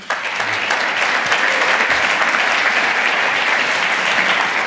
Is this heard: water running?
no